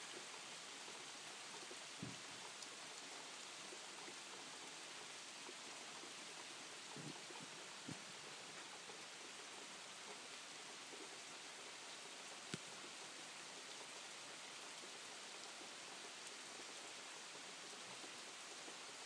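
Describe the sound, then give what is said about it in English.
Steady rain falls continuously, a dense hiss of droplets with a few sharper taps and splashes standing out now and then. No voices, just the even wash of rainfall. “Nothing very exciting, I just thought I'd do a little boo of the rain.”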